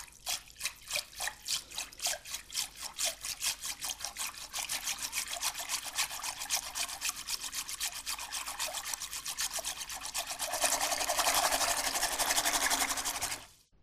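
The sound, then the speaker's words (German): A whisk dipped in water and twirled by rubbing its handle between flat palms, making rapid rhythmic splashing and clicking that speeds into a dense, continuous churning swish before stopping abruptly, with no talking. “Jetzt tauche ich einen Schneebesen ins Wasser und reibe den Griff zwischen meinen flachen Händen, so wie einen Quirl oder eine Schlange aus Knetmasse.”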